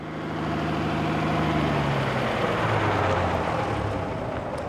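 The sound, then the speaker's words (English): A large bus engine idles at a stop, a steady low rumbling drone with a slight shift in pitch partway through, continuous with no voices. “This is our stop. I'm glad to be off that bus, Tony.”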